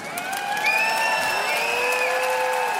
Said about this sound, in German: Jubel, Kreischen, Klatschen.